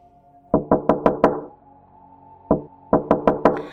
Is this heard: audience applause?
no